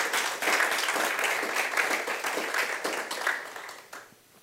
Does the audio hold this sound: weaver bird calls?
no